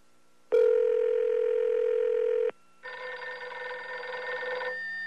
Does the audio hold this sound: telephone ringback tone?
yes